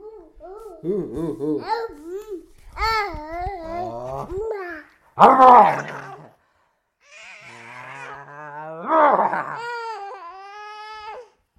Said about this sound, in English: So, she just keeps doing this now, this spitty dribbling.